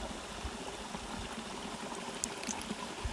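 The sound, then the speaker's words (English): A stream out in nature, recorded from a hammock slung between two trees over it, bubbles and gurgles steadily, a soft continuous wash of running water with small splashes and high, bright droplet sounds scattered throughout. No voices. “was there out in nature, listening to God's voice, reading his word, hearing the beautiful bubbling of the brook.”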